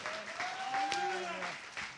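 A church audience stands and claps their hands in a steady, dense wash of applause, with a sustained tone and cheering voices rising through the middle of the sound, as a speaker is brought up.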